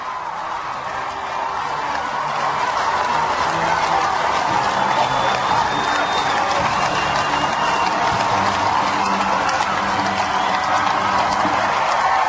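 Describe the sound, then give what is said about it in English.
A large crowd at a royal wedding murmurs and cheers in a steady, dense wash of noise as the procession approaches Buckingham Palace, while a military band plays the British national anthem faintly underneath, its low brass notes just audible through the din. “That was the British National Anthem playing in the background as well, from one of the military bands.”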